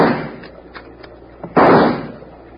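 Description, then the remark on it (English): Rifle shots ring out as Hickok fires a rifle from a rocking boat at attackers taking pot shots: a few faint sharp cracks followed by one loud, booming shot that trails off into a fading rumble. No one speaks. “All right, hand me that rifle, Doc.”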